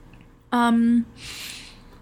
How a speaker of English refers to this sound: Take a sip of your boba. Yeah, no. Drink some boba.